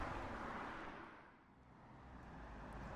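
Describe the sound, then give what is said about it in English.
A bus pulls up at a stop amid steady roadside traffic rumble, its low engine drone easing briefly before swelling louder again. No one speaks. “Oh, here's the bus.”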